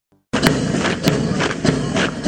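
marching footsteps

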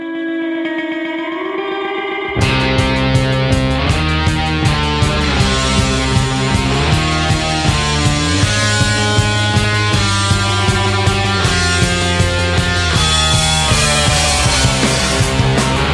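rock song playing

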